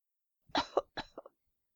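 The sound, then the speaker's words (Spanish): A short burst of deliberate coughing, about four quick harsh coughs in two clusters, fairly loud with no talking, sounding staged rather than natural. “Iba a buscarlo, pero como no dejabas de hablarme, insistió en su tos para darle al menos remordimientos.”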